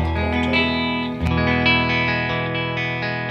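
A clean electric guitar played through the vibrato channel of a Deluxe Reverb amp rings out sustained chords with a gentle, wavering vibrato and a touch of reverb, shifting to a new chord partway through and playing alone.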